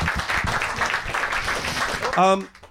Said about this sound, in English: Round of applause